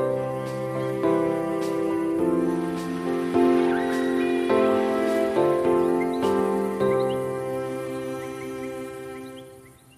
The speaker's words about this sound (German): Es regnet schon den ganzen Tag. Dicke Regentropfen fallen auf die Wiese, tröpfeln von den Ästen der Bäume oder kullern von den Blättern.